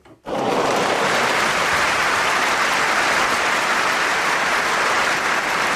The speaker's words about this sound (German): Oh, Beifallklatschen fürs Wetter ist nicht gerade angebracht.